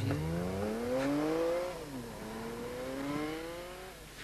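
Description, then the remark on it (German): A woman gets back into her car, registered in California, and drives off: the engine revs up with a rising whine, drops briefly as it shifts gear, then climbs again as the vehicle pulls away. Steady, with no voices. “Jetzt steigt sie wieder in ihr Auto.”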